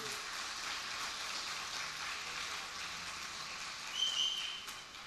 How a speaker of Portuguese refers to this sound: Dá uma salva de palmas se você crer nisso.